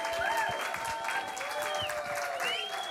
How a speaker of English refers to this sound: So if you could give the local performers a big round of applause, and then I'm going to hand over to them.